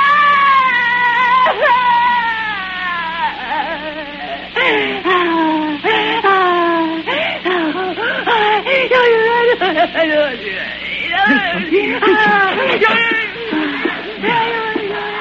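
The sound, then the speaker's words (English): A woman shrieks and wails in anguish, loud, her voice rising and falling in long, sobbing cries that break into shorter choked bursts over about fifteen seconds. “Then came a frightful shrieking, torn from the throat of a damned soul in torment, and I fell forward on the floor, and something fell with me, and I saw it as the picture I'd painted, and the voice that was shrieking was my own.”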